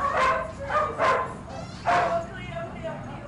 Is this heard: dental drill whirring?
no